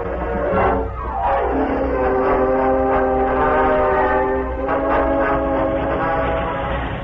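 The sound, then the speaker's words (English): A speeding train a short distance from Modoc City roars along with a loud, continuous rumble while its horn blares in a long, steady blast that holds for several seconds. No voices are heard. “Meanwhile, a short distance from Modoc City, Cliff Gunnison hurried through the empty passenger cars and joined Gopher in the engine cab of a speeding train.”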